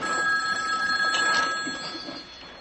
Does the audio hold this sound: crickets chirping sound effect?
no